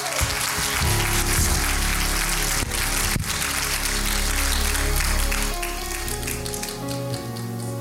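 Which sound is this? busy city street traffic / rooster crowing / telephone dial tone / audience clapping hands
audience clapping hands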